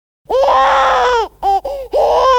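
A baby wails loudly: one long strained cry, two short sobbing bursts, then another drawn-out wail, with no one talking over it.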